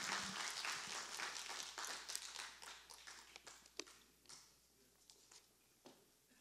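Audience applause: a dense wash of many hands clapping, loud at first, then thinning into scattered individual claps as it fades out.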